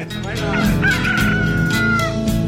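A rooster crows one long, drawn-out, high call lasting over a second, with chickens clucking around it, all set against a steady, dense background sound that stays loud throughout.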